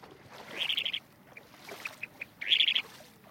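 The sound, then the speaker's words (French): Shorebirds over a tidal bay call in two quick bursts of high, rapid piping notes, with a few scattered single peeps between them, set against a soft, low outdoor rumble. “Alors on les entend crier, pi, pi, pi, pi, pi, hein, voilà.”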